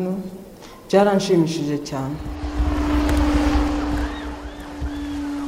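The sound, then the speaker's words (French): A voice speaks briefly, then a delivery drone bringing medicines to cancer patients hums steadily, its motor tone holding constant beneath a wash of rushing rotor noise, loud. “près de 300 malades du cancer reçoivent leur traitement par drone depuis avril.”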